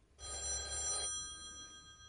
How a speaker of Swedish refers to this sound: Det var Billans mamma som ringde.